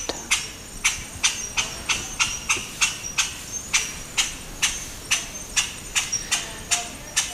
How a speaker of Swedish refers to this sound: Ljud av blek strimlemur som ropar i natten i Kirindiskogen på västra sidan av Madagaskar.